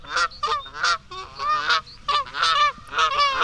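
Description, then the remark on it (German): A rapid string of loud, nasal goose honks, about eight harsh calls in an uneven rhythm, some overlapping, as a goose sings in an animal singing contest. “Ich bin eine Gans und ich bin mir irgendwie ganz sicher, dass ich die beste Sängerin weit und breit bin.”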